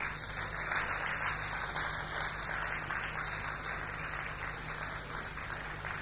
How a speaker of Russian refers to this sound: И прежде всего давайте похлопаем тем людям